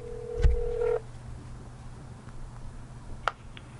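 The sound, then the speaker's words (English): A single steady telephone ring tone sounds over the line for about a second with a low thump, then gives way to quiet line hiss and a brief click, during a call to Yomega, a yo-yo company. “Oh, they're ringing.”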